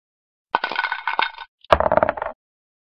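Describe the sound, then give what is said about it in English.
Six dice clatter and rattle in a game of Farkle, in two quick bursts, a sharp clicking jumble that settles, pauses briefly, then tumbles again with bright hard knocks before stopping. No voices. “Benny rolls 6 dice.”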